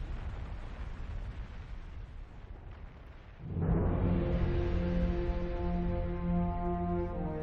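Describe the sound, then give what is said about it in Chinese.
A steady rushing noise gives way, about halfway through, to a sudden explosion with surging flames: a loud blast that swells into a sustained, droning roar with a deep tonal hum, continuing to the end. No voices. “突发爆炸，烈焰奔涌，伴随着巨响，吓坏了邻里街坊。”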